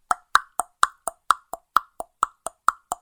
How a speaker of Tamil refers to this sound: என்ற குதிரை குழம்பின் சத்தத்தை கேட்டு பொன்னன் விழிப்புடன் நிமிர்ந்து உட்கார்ந்தான். ஆம், உறையூர் பக்கத்திலிருந்துதான் அந்த சத்தம் வந்தது. சிறிது நேரத்துக்கெல்லாம் குதிரை அருகில் வந்துவிட்டது.